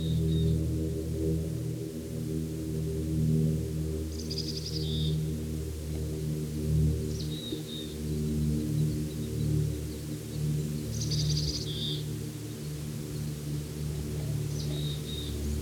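Short, high bird calls of two kinds trade back and forth every few seconds as at least three birds chorus and answer one another, over a steady, loud low droning hum.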